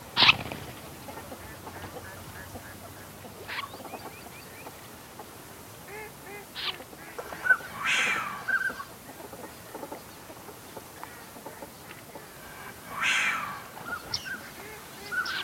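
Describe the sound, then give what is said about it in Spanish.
A common snipe flushes from the shore, giving two harsh, rasping calls a few seconds apart over a busy background of scattered wetland bird calls. “Una agachadiza sale volando desde la orilla.”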